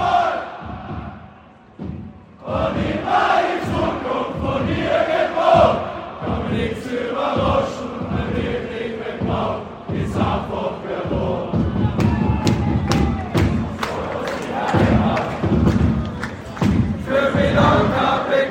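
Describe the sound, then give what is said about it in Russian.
A large crowd of Sturm football fans chants loudly and rhythmically in the stadium stands, heard from the top row beside them, voices massed together with steady beats and thuds driving the chant, continuous throughout. “я пересел на самый верхний ряд, рядом с болельщиками Штурма, и сейчас мы можем предоставить вам возможность немножко прочувствовать, как матч ощущался прямо с трибун.”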